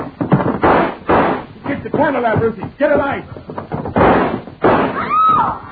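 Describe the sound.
Several loud, sharp gunshots fired in the dark crack out at uneven intervals, mixed with agitated shouting voices and a rising cry near the end.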